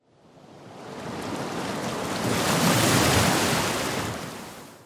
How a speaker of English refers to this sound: The mass of water smashes against the embankment, rises up in the air, but just at the moment when it should drop back down and drown the city, it remains frozen.